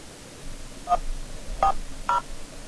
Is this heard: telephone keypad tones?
yes